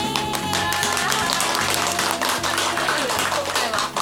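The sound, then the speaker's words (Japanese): Audience applause during a radio program, a dense, steady wash of many hands clapping that lasts the whole few seconds, mixed with music playing underneath. No one speaks. “拍手があって嬉しいですね。”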